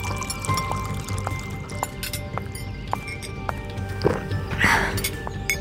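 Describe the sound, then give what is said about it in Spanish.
Water splashes briefly into a small glass near the end, following a few light clinks against a steady low hum; the pour is short. “Tómate un vasito de agua.”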